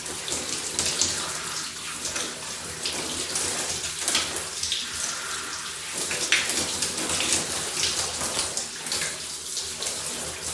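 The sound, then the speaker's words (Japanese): Steady shower water runs continuously for the whole stretch, a dense hissing spray with uneven splashes as it strikes hair and skin while a person wets their head before shampooing. Nobody speaks. “今、頭濡らしてます。頭濡らしてて、これからちょっと体をきれいにしていきます。”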